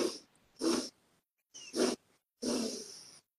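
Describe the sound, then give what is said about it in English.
Four breathy sniffing inhales drawn sharply through the right nostril with the left nostril blocked, as a breathing exercise, fairly loud, with short gaps between them; the last one is drawn out a little longer. No talking. “And then let's inhale 4 equal breaths up through the right nostril.”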